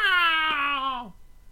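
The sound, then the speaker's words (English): A single drawn-out seabird cry heard from outside on a gray day, nasal and harmonically rich, holding a steady pitch for about a second before sliding down and cutting off, with nothing else around it. “I heard a faint cry of seabirds.”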